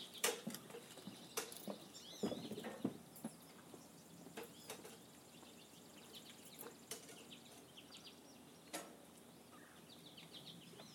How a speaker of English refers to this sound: Oh, there's the woodpecker. I hope my phone picked it out. I doubt it, though. I think he's too far away. He's pretty far away.